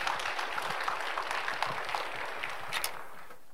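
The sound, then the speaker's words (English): A crowd applauds steadily, a dense wash of many hands clapping at once that stays even for a few seconds before beginning to thin out at the end, greeting Reverend Yu Kwang-soo, President of World Evangelization, as he comes forward to speak. “Let's greet him with a warm round of applause.”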